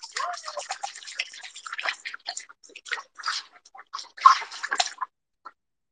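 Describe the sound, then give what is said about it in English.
Water gently sloshing and dripping in a freshly filled bathtub, with irregular small splashes and trickles for about five seconds before falling quiet. No one speaks. “Can you hear like the water sound?”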